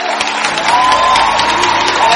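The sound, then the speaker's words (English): An audience at the Cochrane Theatre in Holborn, London, applauds the Lord, breaking into dense, steady applause that swells slightly after the first moment, with a sustained cheering voice carrying over the clapping throughout. “I want to hear you give the Lord. A rapturous applause.”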